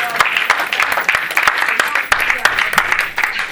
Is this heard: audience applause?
yes